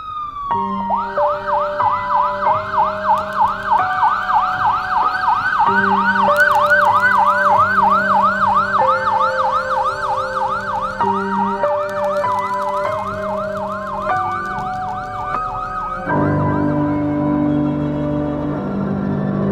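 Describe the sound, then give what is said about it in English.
A loud police siren wails in fast, rising-and-falling sweeps, seemingly two sirens overlapping, from two police cars parked right outside a building, holding steady for most of the stretch before shifting into a lower, rougher tone near the end. “Two cop cars parked right outside.”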